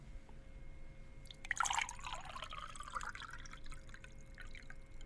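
Water is poured into a glass in a game of guessing whether the water is hot or cold, a bright splashing burst that settles into a steady, gurgling trickle with rising pitch, fairly soft overall, with no voices.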